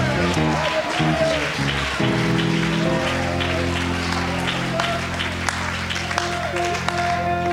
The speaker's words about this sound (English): Somebody give God a hand clap of praise right now. And now add your voice and add a shout of praise.